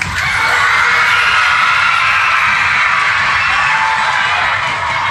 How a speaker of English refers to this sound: Every time I wave my wand like this, I want you to stamp your feet, clap your hands and cheer as loudly as you can.